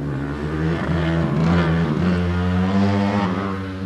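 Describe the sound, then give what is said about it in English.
A small race car engine revs steadily as it weaves between cones on a banked portion of an autocross track, its buzzing pitch rising and falling slightly, loud and continuous for the whole stretch with no voices. “This afternoon, the cars are weaving between cones on a banked portion of the track.”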